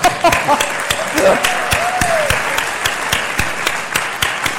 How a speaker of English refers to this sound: Yahoo. Can I applaud?